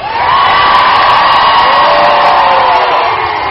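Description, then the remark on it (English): A raucous rally crowd in Kentucky, protesting over pension reform, cheers and shouts continuously, a loud sustained roar of many voices with rising whoops and yells layered on top, no single speaker standing out. “And the raucous crowd promised to remember this fight over pension reform in this year's and next year's elections.”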